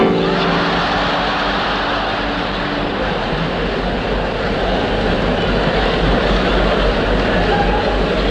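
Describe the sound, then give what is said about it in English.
A train carriage rolls steadily along the rails, a loud, continuous rumble with dense clatter and hiss that holds constant from start to finish, with no voices. “All aboard, shouts the guard, and the carriage fills up. And you sit contemplating your NZR cup.”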